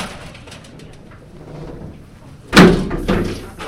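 A heavy prison door in the Security Housing Unit at Pelican Bay prison slams shut with a single loud, booming impact that rings and echoes briefly, following a stretch of quiet background ambience with faint bird sounds.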